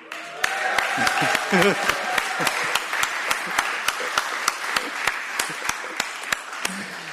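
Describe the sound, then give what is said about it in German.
An audience, asked to cheer once more, cheers and claps, with steady, evenly spaced rhythmic claps running through a continuous wash of crowd noise; a few raised voices stand out near the start. “Wollen wir nochmal versuchen zu jubeln?”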